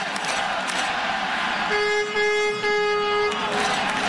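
A loud celebratory horn blast, not a car horn, sounds once, a steady blaring tone lasting about a second and a half over a constant roar of background noise, celebrating the Washington Capitals clinching a playoff spot.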